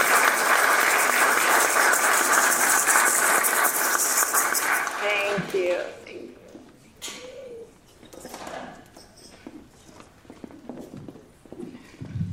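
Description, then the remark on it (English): An audience at a church service bursts into loud, sustained applause for about five seconds for the people who made a portrait possible, then the clapping quickly dies away, leaving scattered faint room noises and a few light knocks. “And before we continue with the service, I think we should have a round of applause for all the people who made that portrait possible.”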